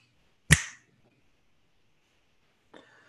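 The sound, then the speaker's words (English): A single sharp finger snap, given after a count of three to cue the next experience, cracks out loudly and fades within a fraction of a second. Quiet follows, with a faint, brief rustle near the end. “Counting to three, and when I snap my fingers, you will jump into the next experience.”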